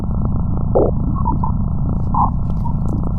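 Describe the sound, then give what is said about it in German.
Sonified measurement data from space probes that have left the Solar System: a dense, continuous low rumbling drone, steady and loud throughout, with a few brief warbling tonal blips rising above it. No voices. “Also wenn du jetzt diesen Sound einspielst, dann gehe ich mal davon aus, das hat was mit den Messungen zu tun, oder?”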